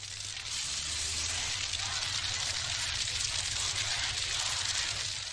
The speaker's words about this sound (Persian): شعله‌های آتش برافروخته‌تر می‌شود. مردم به این طرف و آن طرف می‌دوند. وانت‌های ارتشی در آتش می‌سوزند.